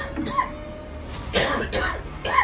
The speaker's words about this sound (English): With great effort, he pulled himself up and collapsed on the bare planks of the floor, coughing on the dust and dirt choking the air.